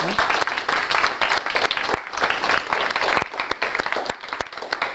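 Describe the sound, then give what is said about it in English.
A room full of people claps steadily for several seconds to thank their facilitator, a dense, continuous wash of applause with no one speaking over it. “So in conclusion, I would like all of you to thank your facilitator for their hard work and give them an applause.”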